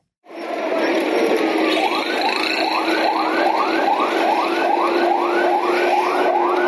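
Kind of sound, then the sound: vehicle, emergency vehicle sirens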